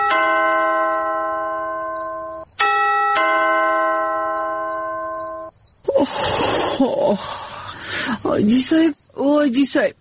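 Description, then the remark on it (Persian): A two-tone electronic gate doorbell chime rings out clearly in the middle of the night, a sustained harmonic tone with a brief higher note in the middle, followed by people talking. “تو که زنگ دروازه است، تو بی بیتی کی هست دهی وقت شب؟”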